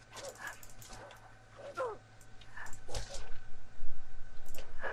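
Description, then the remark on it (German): Wolves give a scattered chorus of sharp yelps and short barks, several voices overlapping in quick bursts over a steady low hum, growing busier and louder toward the end. “Alter, wie viele Wölfe waren das denn bitte?”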